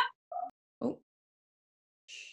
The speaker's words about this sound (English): Oh, there's a dog barking. Shut up.